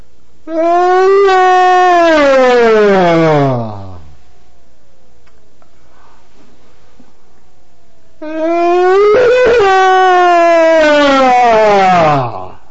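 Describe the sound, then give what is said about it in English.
Two loud, exaggerated yawns on the exhale, each a drawn-out voiced sigh of three to four seconds with pitch sliding downward, separated by a few seconds of quiet. “Further, the yawn should be extremely loud and only on the exhale. First, I'll illustrate the yawn from my sound tape.”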